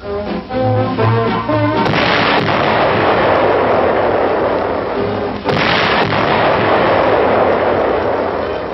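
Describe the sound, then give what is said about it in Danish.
Two heavy explosions, as Coast Guardsmen blast their way through ice floes off Greenland, boom out a few seconds apart, each followed by a long roaring rumble of debris. A brief stretch of tonal music precedes the first blast. “War's dramatic action reaches the far north as Coast Guardsmen blast their way through ice floes off Greenland in an attempt to break up establishment of Nazi bases.”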